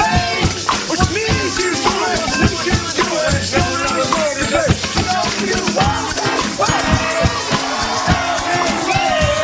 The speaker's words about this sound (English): Enjoy the piped in applause. I know. Right? That's horrible. That's weird.